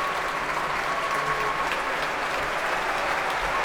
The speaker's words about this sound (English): And she's thanking all of them, pretty much individually. Still clapping, musicians and audience. Will she come back on? Yes, here she comes, with Donald Runicles as well.